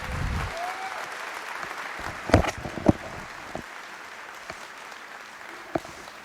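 Steady audience applause, a dense wash of many hands clapping at moderate volume, with a few sharper individual claps standing out before it slowly thins.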